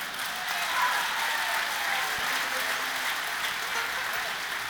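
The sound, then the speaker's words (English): Audience applause at a show in Delaware, a dense, steady wash of many hands clapping that holds at an even level for several seconds with no clear individual claps standing out. “You can tell by all the applause and things I've got a lot of friends out there.”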